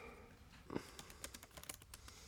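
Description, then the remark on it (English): Rapid clicking of keys on a computer keyboard while searching the web, a dozen or so quick taps in an uneven rhythm, fairly quiet, with a soft low background hum. “You probably hear the keyboard too.”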